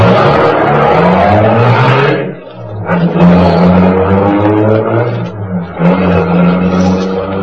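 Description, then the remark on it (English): A getaway car's engine roars, revving hard as it accelerates, drops off briefly as if shifting gears, then surges again with a loud, steady growl. “Shut your mouth and step on the gas. Step on it, I said.”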